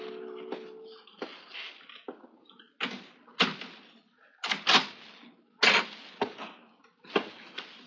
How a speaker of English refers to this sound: But while I was taking mournful stock of my seemingly hopeless surroundings, I heard something that made my heart leap. Someone at the door.